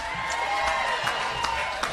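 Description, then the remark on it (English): A large crowd cheers and applauds for Gritty and his dancing in a steady, dense roar, with scattered claps and shouts popping out over the continuous noise for the full two seconds. “Let's hear it for Gritty and his dancing.”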